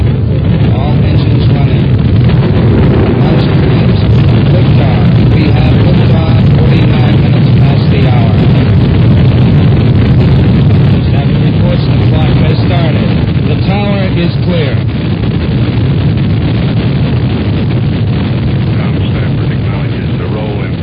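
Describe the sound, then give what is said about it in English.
A rocket launch's engine roar: a loud, continuous, deep rumbling blast with crackling texture that holds steady for about twenty seconds, with faint voices buried beneath it. “We have ignition sequence start. Engines on 5, 4, 3, 2.”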